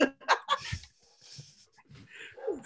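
A dog gives a quick run of three or four sharp barks at the start, followed by quieter snuffling, breathy sounds and a couple of softer yelps.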